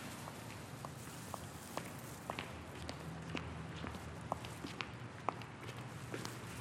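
Soft footsteps of someone walking at a steady, unhurried pace while carrying a plastic bag, each step a light tap over a low, constant background hum. No one speaks.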